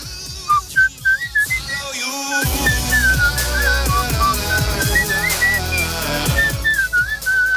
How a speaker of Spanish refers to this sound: Está ahí el pobre silbando. Que lo de silbar también tiene su cosa, ¿eh?